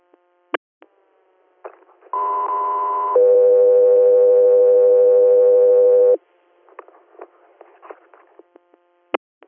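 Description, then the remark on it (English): A loud radio dispatch alert tone for the unit Echo 3 Air, ahead of a scene standby call in Newfield, Tompkins County, New York: a steady higher pitch for about a second, then a longer lower pitch for roughly three seconds, framed by sharp radio clicks and crackly static bursts. “Echo 3 Air, stand by for tone.”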